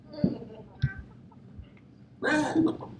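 A chicken clucking sound effect: a chicken clucks in a few short, sharp bursts, then lets out a louder, drawn-out squawking cluck near the end. It stands alone, with no talking.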